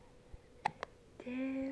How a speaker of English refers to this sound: Of all the smiling, oh, and the hiccuping. Oh, you got some hiccups. Oh, you got some hiccups.